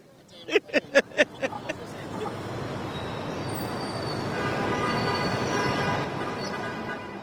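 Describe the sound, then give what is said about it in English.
A subway train rumbles through a tunnel in Manhattan, New York, around 9 p.m., on a ride from East Harlem to the Upper East Side, opening with a quick run of rhythmic wheel clacks that fade into a steady, loud roar with a thin metallic whine riding on top. “Around 9 p.m., I took the subway from East Harlem to Trump Tower on the Upper East Side of Manhattan.”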